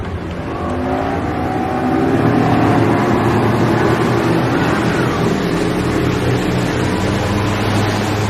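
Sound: motorboat engine approaching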